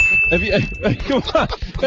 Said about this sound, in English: ring the bell!